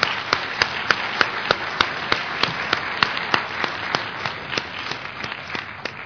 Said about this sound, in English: You know, but before we go any further, what I would like you to do to help me, to just give our four grantees a round of applause, if you will, please.